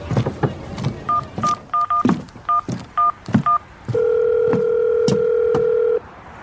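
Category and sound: signal or alarm, telephone keypad dialing tones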